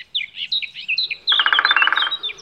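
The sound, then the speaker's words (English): Chiffchaff, chaffinch and blackcap songs overlap in a lively outdoor chorus in dense vegetation: quick high chirps and trills, the chaffinch higher up, joined midway by the fuller, fluted warble of a blackcap lower down in long grasses, with no talking. “The one that sounds like a canton is a chiffchaff. Higher up, there is a chaffinch.”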